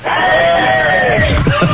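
A group of seven men outside radio station WYSP at 5th and Market in Philadelphia shout a loud, drawn-out hello together, their overlapping voices sustained for a couple of seconds before breaking into a few scattered yells.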